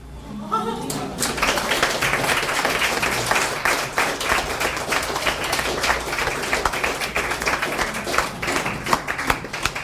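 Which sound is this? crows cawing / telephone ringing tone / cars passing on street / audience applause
audience applause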